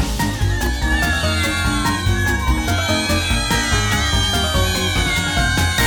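A short, upbeat musical jingle with cat meows woven through it, introducing the cat story segment of Those Girls in the Afternoon on Z102.9, steady and loud from start to finish, with no one talking.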